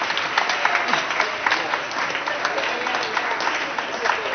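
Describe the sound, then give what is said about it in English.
Steady audience applause for members of a middle school group coming up to the front, a dense, continuous patter of many hands clapping at even loudness, with a faint murmur of voices mixed underneath. “But if you are in our middle school group and you would like to come up and receive a round of applause, come on down.”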